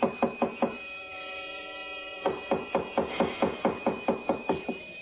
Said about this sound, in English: Oh, now, please, don't batter down the door.